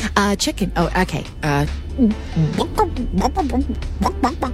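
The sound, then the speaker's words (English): A mother's clear voice imitates a chicken's clucking for a child, with a quick run of short, rhythmic clucks that rise and fall in pitch, over a low steady hum. “Mama, what does the chicken say?”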